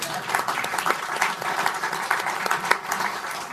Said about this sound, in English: Let's clap for Michael O'Hanlon.